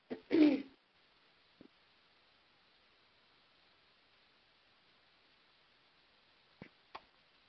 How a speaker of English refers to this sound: I'm sorry, I had to clear my throat. I didn't want to cough into the phone.